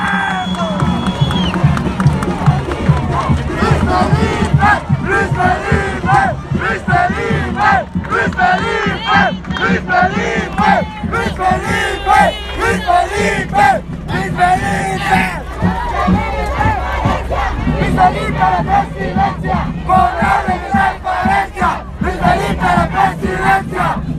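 A large crowd roars and cheers loudly and continuously, with shouts rising over a dense wall of applause and voices that stays steady for the whole stretch.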